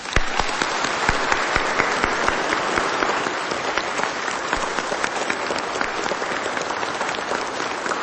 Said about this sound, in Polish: i przy tej okazji bardzo serdecznie i gorąco dziękujemy wszystkim wychowawcom, opiekunom podwórkowych kółek różańcowych dzieci, siostrom zakonnym, kapłanom, tych wszystkich bardzo gorąco z Krasnobrodu pozdrawiamy, a czynimy to gorącymi oklaskami.